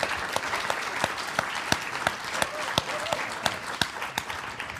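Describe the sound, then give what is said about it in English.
A crowd applauds steadily, dense clapping filling the room with a few sharper, louder claps standing out at irregular intervals throughout. “A round of applause.”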